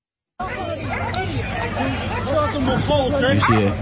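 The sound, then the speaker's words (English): A police dog barks repeatedly in short, sharp bursts amid the loud, continuous hubbub of an agitated crowd of lockdown protesters being attacked by Dutch police with batons and dogs, with many voices shouting and chattering throughout. “You know, what's really telling is at the beginning, the dog actually starts to attack the police officer”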